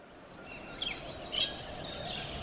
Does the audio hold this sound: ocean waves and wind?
no